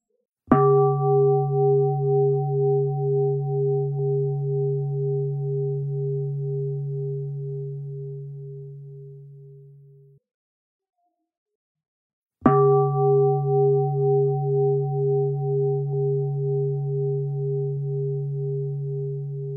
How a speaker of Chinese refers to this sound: 接下来，你会听到三声钟声。跟随着钟声，把注意力带回到当下。